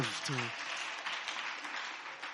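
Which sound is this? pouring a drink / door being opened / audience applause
audience applause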